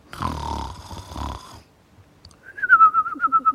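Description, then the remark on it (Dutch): A loud, rasping snore drawn in for over a second, then a pause and a warbling, high whistle on the breath out, pulsing in quick wavers, from someone asleep in a chair. No one speaks. “horen jullie dat ook? Het lijkt wel alsof er iemand ligt te slapen.”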